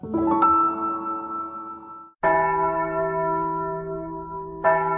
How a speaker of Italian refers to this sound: Il suono prorompente delle campane mi riporta qui e interrompe per un attimo il flusso dei miei pensieri che si mescolano al profumo del caffè.